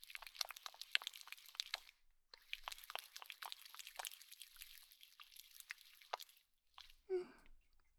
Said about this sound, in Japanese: 最初は頭から洗っていくよ。シャンプーを手に取って、両手でよーく泡立てていくね。